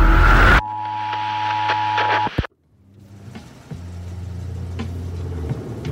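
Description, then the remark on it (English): A burst of static gives way to a steady electronic hum that cuts out abruptly; after a pause, the low, even drone of an idling police car engine rises and holds. “It's a cop car.”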